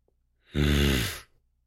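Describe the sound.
A single deep, guttural growl made with the voice from the bottom of the throat in the chest, lasting under a second, low-pitched and rough with a breathy edge, rising quickly and then cutting off, with no other sound around it.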